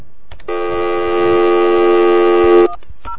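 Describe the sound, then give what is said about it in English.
A single loud, steady electronic phone tone holds for about two seconds and then cuts off abruptly, with faint clicks and light background rustle around it, as a person dials a phone number from memory to place a call through AT&T. “I just want to see how far I can get with this phone number. Okay, let me see if I can remember it.”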